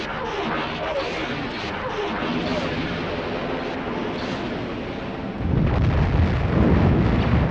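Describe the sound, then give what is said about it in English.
Forward turbolasers and ion cannons fire on an Imperial Star Destroyer: a dense, continuous barrage of blasts and rumbling booms with explosions that swells into a louder, deeper eruption of explosions near the end. “Prepare to fire all forward turbo lasers and ion cannons at my command.”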